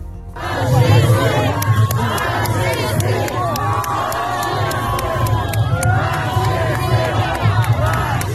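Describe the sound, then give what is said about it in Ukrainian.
A large crowd of protesters in Warsaw, some carrying Ukrainian flags, shouts anti-war slogans together in a loud, continuous roar of many voices, with rhythmic surges and sharp claps or bangs punctuating the noise throughout. “Багато людей прийшли з прапорами України, інші були вдягнені в білі простирадла, вимазані кров'ю, вигукуючи антивоєнні гасла.”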